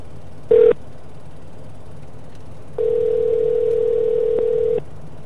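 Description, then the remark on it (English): A phone line ringing on an outgoing call to a coffee business in Augusta, Georgia: a steady, mid-pitched ringback tone sounds briefly, then again for about two seconds, over faint line hiss with no one talking. “It's ringing. It's ringing again.”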